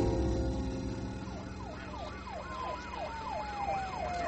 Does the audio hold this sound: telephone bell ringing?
no